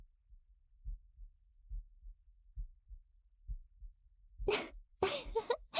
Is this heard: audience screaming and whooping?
no